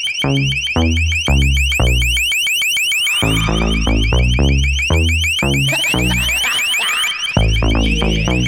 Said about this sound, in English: LRAD, the long-range acoustic device. They were mounted on police cars during the Republican National Convention in 2004. We didn't see them in St. Paul, but we saw them here and they were used on us here. And kind of creepy, gotta say